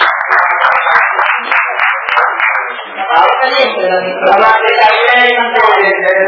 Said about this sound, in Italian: è arrivato il sindaco, prego. Ma no, un grande piacere, un grande... Facciamo un applauso, abbiamo l'amministratore.